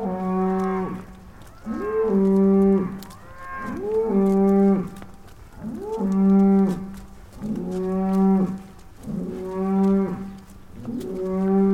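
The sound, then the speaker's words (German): Cows returning home from pasture moo repeatedly, about six long, loud calls in steady succession, each rising then holding a low droning tone, with several animals overlapping and no talking. “So klingt das, wenn die Kühe von der Weide zurückkehren. Sie geben zu Hause Bescheid.”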